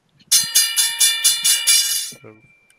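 A loud bell rings in a rapid burst of about seven quick metallic strikes over two seconds, bright and clanging, then stops as a brief voice begins; the bells are rung as a show intro when a guest enters the station.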